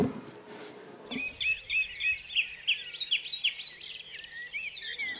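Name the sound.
birdsong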